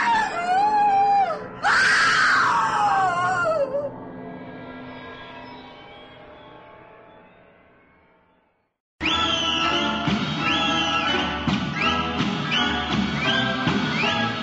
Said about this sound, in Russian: Свояченица в ужасе кричала, слыша за дверью грозное определение.